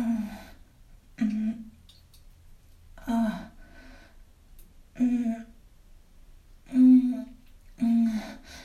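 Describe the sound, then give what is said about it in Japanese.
A person on the toilet in an office restroom grunts with strain, six short, low, voiced pushes spaced a second or two apart, with quiet pauses between, no talking. “こんな声絶対会社の人に聞かれたら、なんか心配されそう。生まれそうみたいな。”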